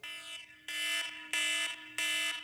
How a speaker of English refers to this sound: But, there are noises that I hate. Especially when alarms are like this.